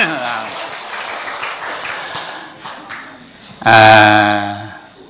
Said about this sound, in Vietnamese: Cho anh đàn pháo tay cho hai người đó.